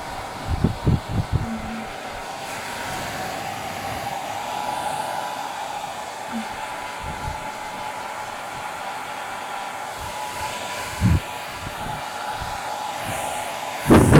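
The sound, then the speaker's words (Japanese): A hair dryer blows warm air continuously at the inner layers of hair, kept constantly moving in a zigzag so the air never stays on one spot; a steady airy whir with a constant hum, broken by brief low thuds and rustles as it is handled. No one speaks. “風は一箇所に当てちゃダメだからね。こうやってずーっと手を動かして、風もジグザグに当てること。”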